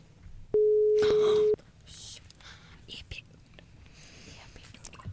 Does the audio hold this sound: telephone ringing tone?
yes